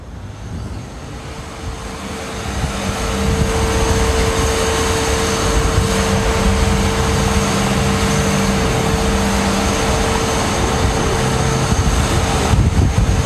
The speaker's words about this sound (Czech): Pro představu toho, co myslím slovem hluk, si poslechněte zvukové srovnání pražské Grébovky a křižovatky ulic na Pernštíně a Národní kousek od obchodního domu Máj.